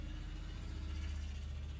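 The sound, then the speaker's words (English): A car with a loud exhaust drives past, its engine rumbling steadily with a deep, throaty exhaust note, fairly loud, holding a constant low drone for a couple of seconds with no voices. “I just love people who have very loud exhaust pipes. They're wonderful, especially when they drive down my street.”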